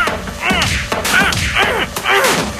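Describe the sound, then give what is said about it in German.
Repeated hollow metallic knocks on a cement mixer at the Woltersdorf Schleuse Ost construction site, about half a dozen strikes in an uneven rhythm, each with a short ringing, wavering resonance that fades before the next hit. “Und jetzt klopfst du auf den Mischer drauf herum drum, wa?”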